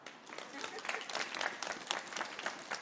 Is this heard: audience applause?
yes